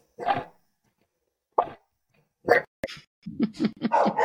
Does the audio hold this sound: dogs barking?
yes